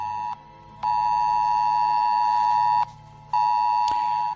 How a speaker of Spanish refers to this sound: Es la alerta que ha llegado a los teléfonos móviles pidiendo que se evite cualquier desplazamiento por la provincia.